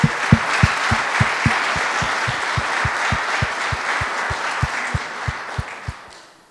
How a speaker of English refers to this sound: So if you please, a round of applause for him.